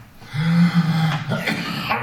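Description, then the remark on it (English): A person coughs after choking when something went down the wrong tube, a strained, groaning throat sound followed by a few harsh, raspy coughing bursts, fairly loud and without any speech. “All right, that's bad. Wrong tube.”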